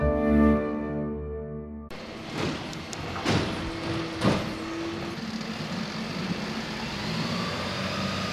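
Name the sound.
garbage truck arriving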